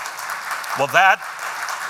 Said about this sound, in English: That is applause for the Holy Spirit, because I had nothing to do with it.